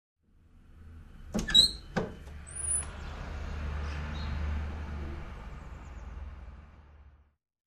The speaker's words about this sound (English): There's a door.